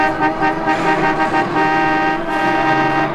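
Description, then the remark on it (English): Several car horns blare at once, overlapping in a loud, sustained chorus of honking that continues without a break over the rumble of busy street traffic. “The city.”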